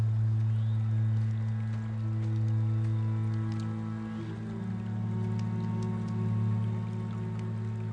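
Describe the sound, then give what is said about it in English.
A stream beside a campfire flows steadily and evenly throughout, a continuous rushing wash with scattered faint ticks and splashes, layered over a constant low droning hum. “Ed turns from the campfire and walks toward the stream.”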